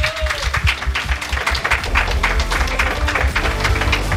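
An audience applauds a prize-draw winner steadily for several seconds, a dense, crackling wash of many hands clapping at once, fairly loud and even throughout, with a low hum running underneath.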